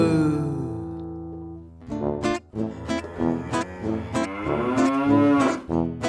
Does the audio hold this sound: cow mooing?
yes